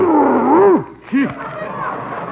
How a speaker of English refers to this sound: The biggest dog I've ever seen.